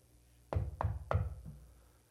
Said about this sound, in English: Persistence. If you don't come to the door, what do they do? Salesman, someone. You know, if someone really wants to get a hold of you, you keep on knocking.